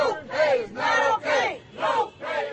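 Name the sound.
protesters shouting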